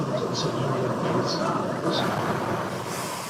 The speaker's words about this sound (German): Die U-Bahn fährt an.